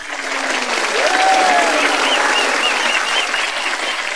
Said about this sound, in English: The entire cabin applauds.